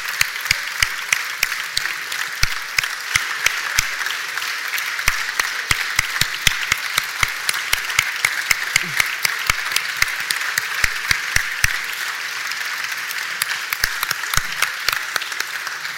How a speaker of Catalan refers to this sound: Doncs ja tenim el cartell de Corpus 2023 i volem donar un fort aplaudiment al seu autor,